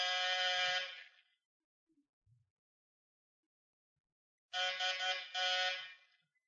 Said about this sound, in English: All right, ring the bell, see if anyone's home.